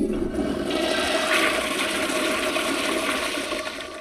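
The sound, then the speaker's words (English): A water-saving school toilet that uses less water per flush flushes with a steady, loud rush of water that swirls and roars for several seconds, tapering slightly at the end. No voices are present. “even toilets that use less water per flush”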